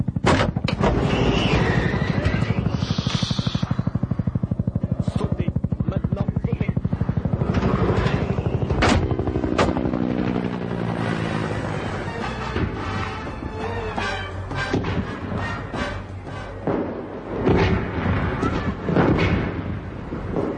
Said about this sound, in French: L'hélicoptère non identifié s'est écrasé sur les flancs du mont Banayo.